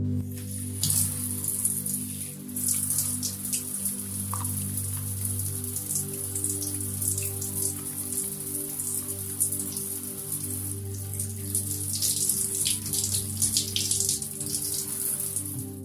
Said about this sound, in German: Wenn wir morgens unter der Dusche stehen, wir spüren das warme Wasser über den Körper fließen, anstatt über den nächsten Termin nachzudenken.